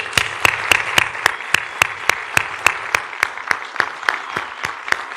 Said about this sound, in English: And it gives me great honor, and it's a privilege to introduce the man behind the bidding committee. And really, just if we can get a round of applause for Mr. Hamad Al-Bulawi.